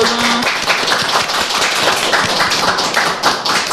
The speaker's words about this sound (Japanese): さすが皆さん、やっぱ拍手のタイミングうまいですね、やっぱりね、練習した甲斐があって、練習してないというですね。